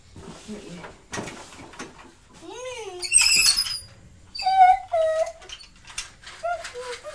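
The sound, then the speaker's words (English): A squeaky toy squeaks repeatedly, fairly loud, each squeal bending up and down in pitch, in short bursts after some soft rustling and knocking. “Squeaky toy again. Sound like a dog with a squeaky toy.”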